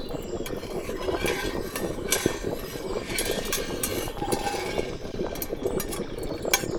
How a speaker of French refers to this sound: Sur le feu pendant 4 heures, ça chauffait dans la vapeur. Elle tournait sa tambouille. Touille, touille, ratatouille.